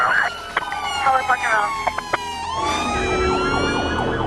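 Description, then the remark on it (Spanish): An ambulance siren wails loudly, its pitch sweeping up and down in steady rising and falling cycles over a low rumble of traffic. “Ya ha salido una ambulancia para allá.”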